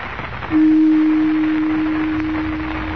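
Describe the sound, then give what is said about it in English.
A gong is struck once to call a council together, giving a single deep, steady tone that rings on for a couple of seconds and fades very gradually, with no voices. “Strike the gong.”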